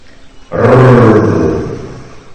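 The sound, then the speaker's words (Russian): A hungry lion's deep, rumbling roar bursts in after a brief quiet moment, loud, then slowly trails off over a couple of seconds. No one speaks. “Это рыб голодного льва.”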